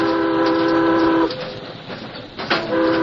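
A steam locomotive's warning whistle, sounded at riders on horseback on the tracks ahead who are trying to wave the train down, gives two loud, chord-like blasts: a long one lasting over a second, then a pause filled with rumbling train noise, then a second blast that carries to the end.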